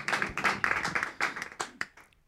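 A short burst of hand clapping from a small group, quick and uneven, fading into a few scattered final claps before stopping.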